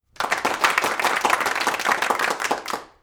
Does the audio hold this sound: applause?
yes